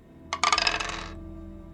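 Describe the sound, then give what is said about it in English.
Six dice are rolled for a tabletop game, a quick burst of hard clattering as they tumble and rattle together on a hard surface, bright, fading out within about a second. “They are a tier 6 faction still, so we'll just go ahead and roll 6 dice.”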